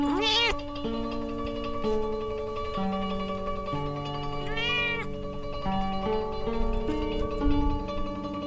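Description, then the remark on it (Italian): A Japanese Bobtail cat gives two clear, rising-and-falling meows, one at the start and another midway, heard over a steady background of gentle sustained music. “Il bobtail giapponese è una razza naturale, probabilmente portata dalla Corea”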